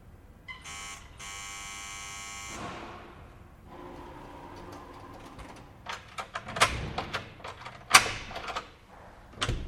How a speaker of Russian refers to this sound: Я хотел было уйти, но потом, раз уж забрался так далеко, позвонил в дверь рядом.